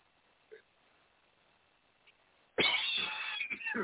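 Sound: coughing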